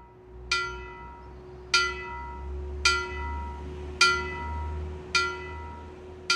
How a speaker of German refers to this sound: So wie die älteste Bronzegussglocke Bayerns. Sie hängt im Turm der Pfarrkirche Mariäennamen von Iggensbach im Landkreis Deggendorf, ist 45 cm hoch, auf das Jahr 1144 datiert und wird nur noch als Totenglöckchen geläutet, von Hand.